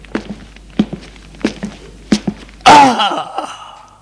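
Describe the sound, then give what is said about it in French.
A slow, steady series of about four footsteps, evenly spaced, followed by a sudden loud, breathy rush of noise that fades out over the final second. “Des pas.”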